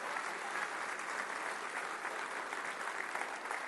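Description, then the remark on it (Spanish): Steady, dense applause from a large audience applauding God, a continuous crackle of many hands clapping at an even level throughout, with no voices standing out. “Un aplauso a su Dios que se lo merece en ese día.”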